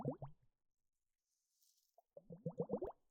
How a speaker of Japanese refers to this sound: この水の音。あなたにはどんな景色が見えていますか？